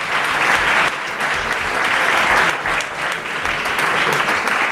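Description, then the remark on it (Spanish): A crowd claps steadily for several seconds, a dense, even wash of many hands at a fairly loud level with no clear voices. “Un aplauso, por favor.”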